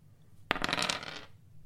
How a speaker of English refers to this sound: That was a 3 and a 2. Two. And it's a zero dice roll, so it's a 2.